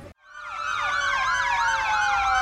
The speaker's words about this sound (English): The sirens of volunteer fire trucks signal the beginning of the West Virginia Coal Festival parade.